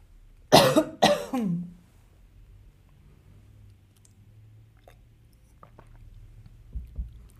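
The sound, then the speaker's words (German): A person with a frog in the throat gives two or three harsh coughs in quick succession near the start, followed by quiet shuffling and faint small sounds of sipping and swallowing water, with no talking. “Ich habe kurz einen Frosch im Hals und nachdem ich keine der Folgen schneide und sonst irgendwie bearbeite, entschuldige ich mich kurz einmal, um zu husten und einen Schluck Wasser zu trinken.”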